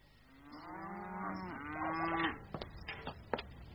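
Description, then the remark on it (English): A cow that is being spanceled gives one long, loud, drawn-out moo, low and rich at first and rising slightly before it breaks off, followed by a few sharp knocks. No one speaks. “Now I've spanceled the cow and fed the pigs”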